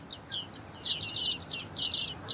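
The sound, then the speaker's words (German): Bearded reedlings calling in a rapid series of short, high, metallic pinging notes, some clustered in quick bursts, over a faint low background hiss. “Da hören wir die Bartmeisen.”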